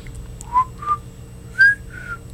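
A person whistles four short, clear notes in a loose rising-and-falling pattern, each note sliding slightly in pitch, over a low background hum, with no talking.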